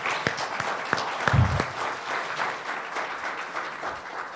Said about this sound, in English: Let's give them a round of applause, because that was nice.